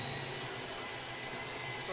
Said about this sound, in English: Yeah, I'm drilling into my wall to get the golden egg. I'm going to win the money.